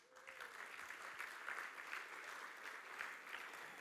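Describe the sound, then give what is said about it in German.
A crowd claps steadily for several seconds, giving the Lord a round of applause, a dense, even patter of many hands with small swells in loudness and no voices standing out. “Dann gib den Herrn einen Applaus.”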